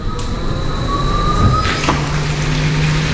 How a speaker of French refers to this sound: Il faudra bientôt tendre l'oreille pour entendre la circulation dans le centre-ville d'Oslo. L'essor spectaculaire des voitures électriques s'explique avant tout par les avantages très significatifs offerts à leurs utilisateurs.